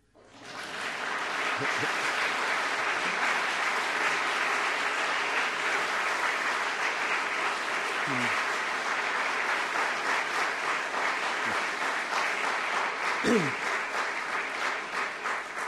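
An audience claps steadily, a dense, even wash of many hands that starts abruptly and holds at a constant level without tapering, with a couple of faint voices briefly audible beneath it.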